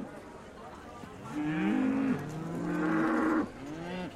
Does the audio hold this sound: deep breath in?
no